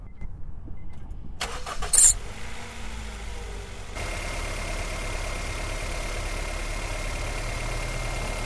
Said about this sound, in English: This is an interesting one to do because you can hear a little bit of valve train noise in this, that little bit of rattle. This is a four-cylinder with overhead cams. And they'll be a little bit noisier engine than them V8 and V6s we listen to